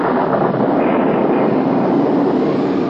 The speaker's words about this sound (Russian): Через какое-то время опять на дворе непогодить начало. Ветер завыл, молния засверкала, гром загрохотал.